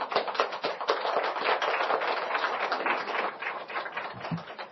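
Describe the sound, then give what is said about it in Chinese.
A crowd gives itself a round of applause, many hands clapping in a dense, crackling wash that holds at an even level for several seconds before thinning slightly at the end. “我很感谢你们，来给自己一个掌声。”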